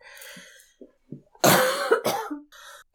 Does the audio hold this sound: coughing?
yes